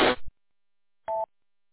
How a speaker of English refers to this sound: Oh, well, if you're heading over that way, and I'm getting the phone call from the boss. Be right back.